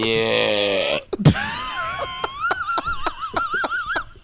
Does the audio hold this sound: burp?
yes